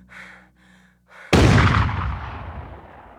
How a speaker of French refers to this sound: Un dernier tir qui achève Kitty Menendez.